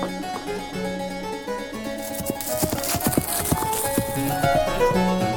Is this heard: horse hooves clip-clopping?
yes